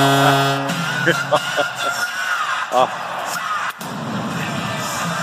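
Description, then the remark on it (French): A goal celebration in Columbus: a sustained horn blares over a roaring, yelling crowd, with a sharp boom from the famous Columbus cannon, which is powered by electricity, cutting through before the cheering carries on. “Le fameux canon de Columbus à chaque fois que...”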